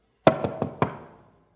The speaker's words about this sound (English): And so he thought about it. He couldn't sleep. He just thought about those knocks on the door.